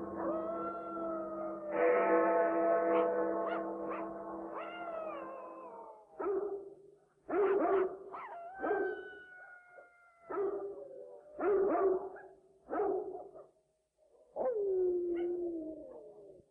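A big Great Dane howls in long, wavering tones, then breaks into a run of loud, repeated barks and yelps with short pauses between bursts, ending on a falling howl. No one speaks.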